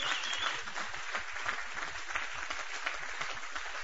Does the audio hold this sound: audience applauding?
yes